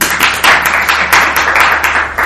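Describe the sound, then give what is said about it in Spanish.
A burst of applause played as a sound effect, many hands, dense and continuous with slight swells in intensity, loud and steady throughout without any voices. “Y hoy tenemos la suerte que tenemos aquí efectos de sonido. Un aplauso.”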